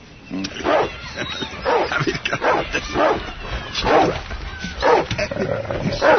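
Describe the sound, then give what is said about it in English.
A dog barks and yips repeatedly in short, excited bursts, fairly loud, with brief whimpery notes between the barks. “Is this your dog?”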